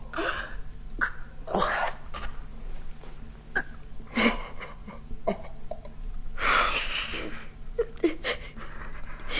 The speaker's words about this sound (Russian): Не плачь. Не надо плакать. Не нужно.